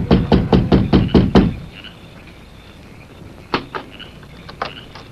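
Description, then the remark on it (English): A quick, even run of about seven loud knocks on the wooden door of a small house at dusk, rapped by a visiting army officer, followed by a quiet pause and a few softer taps or clicks. “It was dusk when he reached the small house and rapped on the door.”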